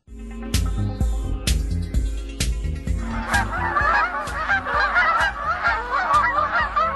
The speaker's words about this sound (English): We are talking about the giant Canada goose this hour, which is presenting a giant problem in some places in Wisconsin.